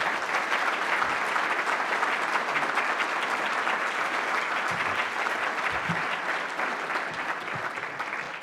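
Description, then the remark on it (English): Steady applause from a sizable audience welcoming Secretary of the Treasury Jack Lew at a Center for Strategic and International Studies event, dense and continuous clapping at an even level throughout without any voices standing out. “So would you, with your warm applause, please welcome the Secretary of Treasury, Jack Lew.”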